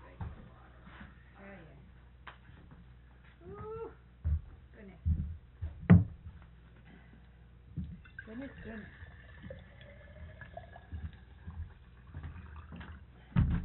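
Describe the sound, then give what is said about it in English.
Regular, not cold, drinking water pours into a glass in a steady stream, its pitch rising as the glass fills, mixed with light clinks and handling noises, while a voice murmurs. “No, you guys just have some regular water. I'll put some.”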